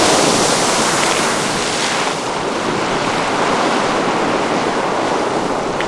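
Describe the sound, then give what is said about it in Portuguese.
The Strokkur geyser erupting, its water gushing upward, said to reach over 25 metres high, in a loud, steady, rushing roar that stays full and unbroken for about six seconds, with wind noise and no voices. “Aqui em cima a gente encontrou esse geyser, se chama Strokur. Dizem que ele jorra água a mais de 25 metros de altura.”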